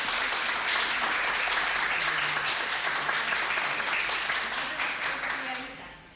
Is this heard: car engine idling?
no